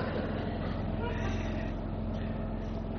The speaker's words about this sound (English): Well, it's not a squirrel today. It's a truck that is cleaning the biffies.